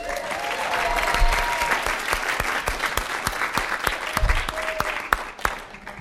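An audience claps steadily for several seconds, a dense patter of many hands with sharp individual claps popping out, a few faint whoops or cheers mixed in, and no one speaking.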